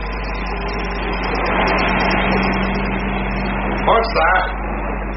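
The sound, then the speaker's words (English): A helicopter flying overhead and seeming to head in the listeners' direction, its engine droning steadily with a low, constant hum, swelling slightly in loudness midway, with a couple of brief louder bursts near the end. “Helicopter. I wonder if it could be looking for us. Seems to be heading in this direction.”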